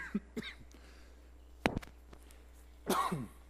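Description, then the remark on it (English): Several sharp coughs into a microphone: a couple of quick bursts early on, a harsh spike midway, and a longer rasping cough at the end, with no talking. “Sorry, you can't get away from the microphone when you start coughing.”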